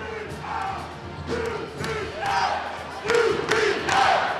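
A sold-out crowd at Patrick Gymnasium roars and cheers at the America East Championship game between the Albany Great Danes and the University of Vermont Catamounts, a continuous wash of many voices that swells in several surges, with individual shouts rising above the din.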